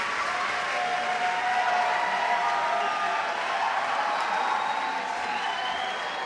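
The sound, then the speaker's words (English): A concert crowd at Judson Memorial Church in New York City roars with steady, dense cheering and applause at the end of the band's set on the last of five nights, a continuous wash of many voices and clapping at a fairly even loudness, with a few higher whoops rising above it. “This is the most lively of the three crowds I've heard.”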